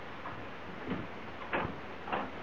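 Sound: door being opened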